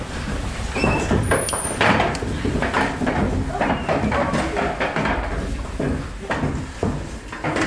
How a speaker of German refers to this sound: Dann schiebst du einmal deinen Stuhl ran.